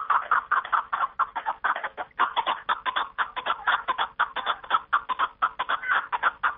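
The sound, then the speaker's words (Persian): A partridge (kabk-e dari) calls in the mountains in a rapid, continuous run of sharp, chattering clucks, loud and rhythmic, with no voices or other sounds alongside. “از این رو آنها میگویند زیب کوهساران کبک است و خوانش آن که در او بیش از آران آدم و تاز است و خوانش و خرامش زیب و جلوه میدهد، بیننده را یک کیفیت خاصی گوارای میبخشیده است.”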